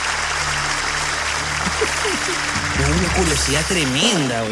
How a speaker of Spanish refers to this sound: Un fuerte aplauso